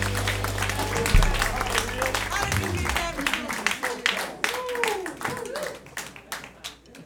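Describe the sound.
An audience applauds with dense, steady clapping that runs the full length, mixed with scattered cheers and murmuring voices, over a low background hum.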